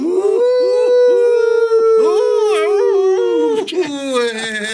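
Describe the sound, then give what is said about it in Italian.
A grandfather imitates a wolf howl with his voice: one long, loud, sustained howl, the pitch wavering and warbling before it cracks and trails off at the end. “Dai, facciamo fare il lupo al nonno.”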